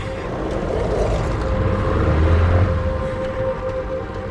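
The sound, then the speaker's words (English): A car engine hums in a steady low rumble with a faint whine above it, swelling slightly in the middle as the car, backed out onto a roadway, is slammed into gear and pulls away. No one speaks. “Backing out onto the roadway, he then slams the car into gear.”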